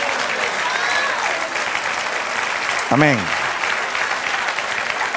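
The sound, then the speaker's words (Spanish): Thin, scattered clapping from only a few in an audience listening to a preacher runs steadily through the whole stretch, with a single voice calling out one short word partway through. “No se oyen muchos aplausos, solamente de los piadosos.”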